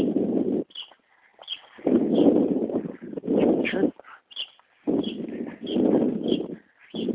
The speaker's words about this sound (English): There's a red-winged blackbird sitting on the pole where I normally take my picture.